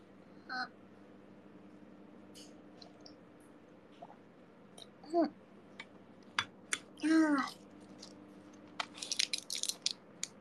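Plastic medicine packaging crinkles and crackles in scattered bursts as it is opened and the medicine is popped out, building into a dense rustle of crunching at the end, with a couple of brief squeaky vocal sounds between.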